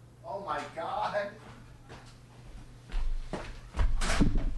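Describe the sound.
A front door is opened and shut as a daughter arrives from the bus by herself: a couple of solid clunks and a rattle near the end, following some muffled voices, over a steady low hum.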